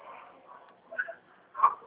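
dog barking

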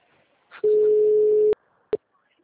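telephone busy signal

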